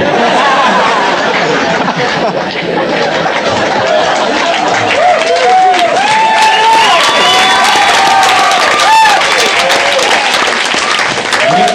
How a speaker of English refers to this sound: Clapping because there's a CD recording going on. No, you guys are a good crowd, man.